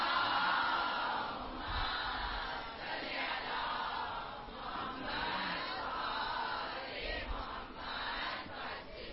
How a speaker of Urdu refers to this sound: ایک مرتبہ سب مل کے باواز بلند نعرے سلوات بھیجیں.